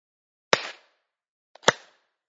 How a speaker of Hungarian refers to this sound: Tegyük össze a két kezünket a szívünk előtt. Kapcsolódjunk a belső napunkkal, és egyszerre kettőt tapsoljunk.